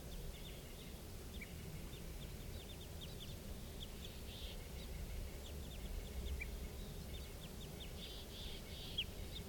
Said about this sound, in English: They're recording at 4:57. I'm pretty sure now those are crossbills up there.